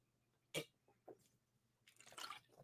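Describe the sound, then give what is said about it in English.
Drinking water: a sharp sip or gulp, a couple of soft swallowing clicks, then a breathy exhale afterward. No talking. “Needed some water.”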